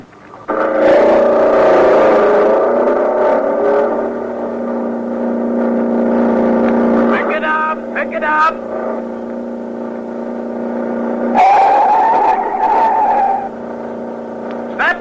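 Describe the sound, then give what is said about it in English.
Loud, sustained engine roar from racing cars at the start of a race, rising and falling in pitch as motors rev and accelerate, with a brief screeching burst midway and another surge near the end. “you're sitting tense and nervous behind the wheel of your own car, your motor racing”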